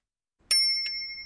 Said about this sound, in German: Und jetzt hat er alle Fahrradglocken und Klingeln für sich entdeckt. Und ihr sollt aufpassen. Ja, die klingen verschieden hoch und verschieden tief. Welche ist denn die höchste Glocke von allen?